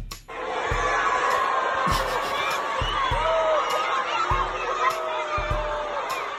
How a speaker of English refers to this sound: First Lady Melania Trump got booed on stage yesterday by an audience of middle schoolers and high schoolers near Baltimore.